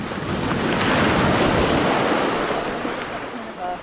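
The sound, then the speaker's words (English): Ocean waves crash against rocks on a shore during a rising tide, in a loud, continuous roar of surf, with gusty wind buffeting the microphone, the wash easing slightly toward the end. “Eventually, the carcass is tied off with some green rope to prevent it from being carried away by the waves, which crash against the rocks, soaking some of the necropsy team.”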